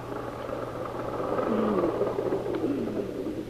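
A car engine rumbles steadily close by, swelling slightly louder as the vehicle draws up, with a low constant hum underneath and no voices.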